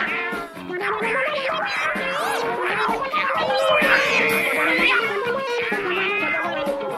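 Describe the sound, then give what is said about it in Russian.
Several cats yowl and screech in a loud, overlapping fight, their wavering wails rising and falling continuously, with no pause throughout. “Котов было раз в 10 больше.”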